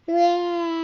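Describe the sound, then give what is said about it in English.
A child's voice pretends to cry, letting out one long, steady wailing note that starts abruptly and holds at an even pitch, loud. The child imitates Baby Llama boo-hooing while the book Llama Llama Red Pajama is read aloud. “Baby Llama starts boo-hooing.”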